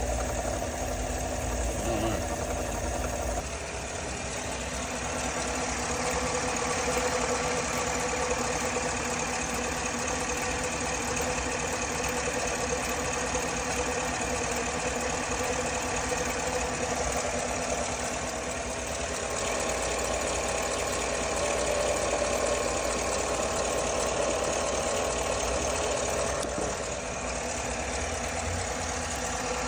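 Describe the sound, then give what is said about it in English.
A vehicle's 6.2-liter engine, paired with a 10L80 transmission, idles with a steady mid-pitched hum and faint rhythmic ticking or knocking layered over it. This chattering noise comes only at idle, around the passenger side, and continues evenly throughout without pauses. “I'm curious if it actually is a water pump.”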